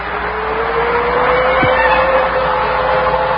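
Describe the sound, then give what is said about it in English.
A car drives along steadily, its engine humming at an even pitch over a constant rush of road noise, with one brief thump partway through. “With every mile, the car brought me closer to the union with someone who no longer existed.”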